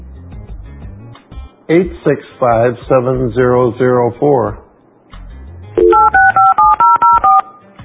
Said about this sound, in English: Dial phone. Thank you. Dialing. I'm calling the cell phone on my wheelchair, and it's ringing.